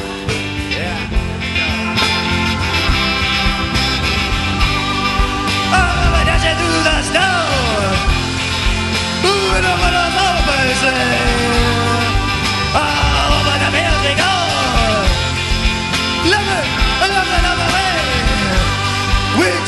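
A loud live rock band plays continuously, with a dense full-band wall of sound. A raw, hoarse male vocal joins partway through, shouting and straining the lines more than singing them.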